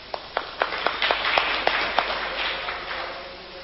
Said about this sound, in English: Give him a clap.